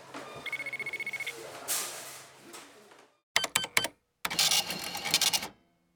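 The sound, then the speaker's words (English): A checkout scanner at a shop checkout beeps in a quick run of short tones as it tries to scan a tube of pimple cream (Acne Zap) that won't scan, followed by clattering register sounds and a couple of bursts of rattling mechanical noise, fairly loud with no talking. “She smiled and scanned the pimple cream.”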